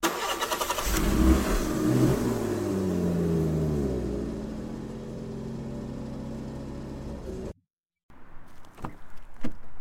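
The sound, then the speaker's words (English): A government car's engine starts automatically, cranking with a burst of noise, then revs and settles into a steady rising hum before cutting off abruptly, followed by a few faint clicks and knocks. “Their government vehicle automatically starting was assigned by Tori, their AI agency supervisor, that they had stayed on site too long.”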